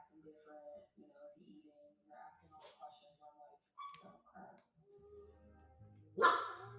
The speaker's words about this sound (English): Oh, the dog.